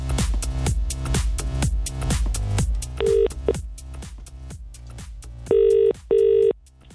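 An outgoing phone call's ringing tone to the Strip Bear waxing salon: clear, steady electronic bursts, the last two close together in a double-ring pattern, following a busy stretch of rhythmic clicking. No one speaks.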